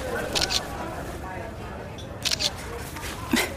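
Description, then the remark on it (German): Three crisp smartphone camera shutter clicks, spaced a second or two apart, as someone in a café takes selfies while secretly aiming the camera at a note, over a low, steady background murmur with faint indistinct voices. “Ich könnte so tun, als würde ich Selfies machen und die Kamera heimlich auf den Zettel ausrichten.”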